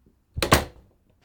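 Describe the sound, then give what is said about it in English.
A door swings shut with a solid thud followed by a quick latch click, then a brief fading rattle before quiet returns. No one speaks. “Please, shut the door and have a seat.”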